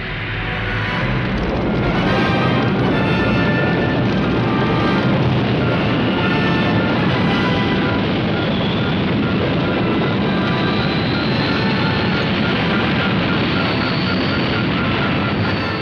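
A spaceship crashes through a ceiling: a loud, sustained roaring rumble full of crackling, tearing debris, with a thin whine rising slowly in pitch, lasting throughout without any speech.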